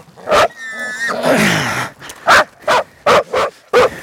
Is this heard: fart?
no